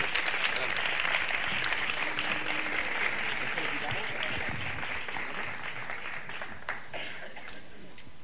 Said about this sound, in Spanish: le pido que le den un fuerte aplauso porque serán los que nos abran, nos pongan el cuerpo flamenco en esta mañana.